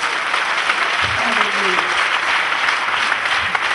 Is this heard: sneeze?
no